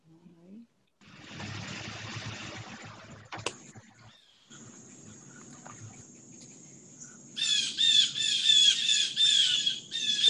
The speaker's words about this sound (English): Wow. Some noisy birds. Yeah. They know I'm out here, you know? It's like, they want to join in. Yeah. Sometimes they yell like that if there's a hawk around or something.